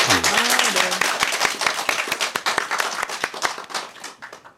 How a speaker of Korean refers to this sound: 네, 그래서 두 분 결혼까지 성공하시라고 네. 박수 한번 보내드릴까요?